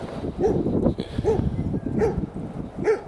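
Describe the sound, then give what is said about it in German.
A dog barks four times at an even, steady pace, each bark short and fairly loud, with a low background rumble between them and no talking. “Was willst du, Hund? Mich anbellen.”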